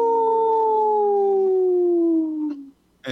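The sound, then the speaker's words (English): A wolf lets out one long, loud howl that slowly slides downward in pitch for nearly three seconds, fading out, followed by a brief burst of noise. “This portion of the show is supported by Howling for Wolves, protecting wolves for future generations. Howl! Howl!”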